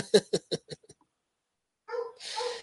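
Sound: dogs barking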